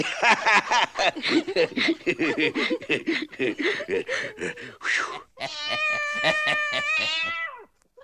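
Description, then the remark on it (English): A voice chatters and chuckles for several seconds, then a cat lets out one long, loud, drawn-out meow that wavers slightly before trailing off. “Come on now, be a nice little pussycat.”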